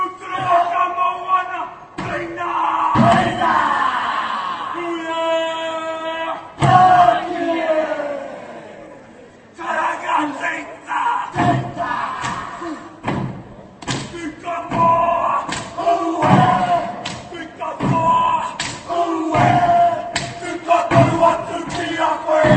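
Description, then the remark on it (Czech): A group of voices shouts and chants in loud rhythmic bursts, punctuated by heavy thuds of stamping feet and sharp percussive slaps, with a sustained sung call in the middle: Maori war dances performed in Prague by tattooed, nearly naked dancers of the New Zealand ensemble Wakari. “Divoce potetovaní a téměř nazí tanečníci předvedli maorské válečné tance.”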